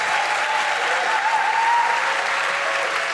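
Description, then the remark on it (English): An audience at an event gives a final round of applause after a prize is awarded, a dense, steady wash of many hands clapping at an even loudness throughout, with no voices standing out. “Okay, one more big round of applause.”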